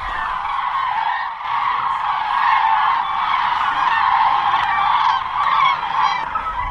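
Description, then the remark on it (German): A large flock of migrating common cranes calls continuously overhead, a dense chorus of loud, trumpeting, rolling cries overlapping without pause, with no voices present. “für die Braunschweiger eigentlich prägnant sind die Kraniche, die im Frühjahr und im Herbst, Spätherbst hier über Braunschweig wegziehen”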